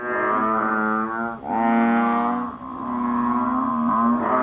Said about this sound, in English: That was the call of a banded bullfrog.